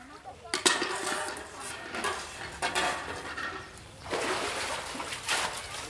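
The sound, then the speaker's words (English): Steel pots clank and knock while water splashes and sloshes inside them as women farmers haul water from a local well in an Indian village, fairly loud, with sharp bursts scattered through and faint voices murmuring in the background. “At least twice each day, women farmers in this Indian village walk to one of the local wells, drop in a bucket, and haul up water. Their steel pots carry up to 4 gallons and can weigh 50 pounds.”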